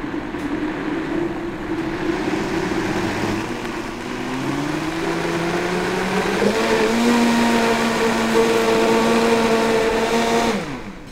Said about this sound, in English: Anytime you're blending a hot liquid in a blender, always go on the very, very lowest speed. So then you just slowly bring it up to speed.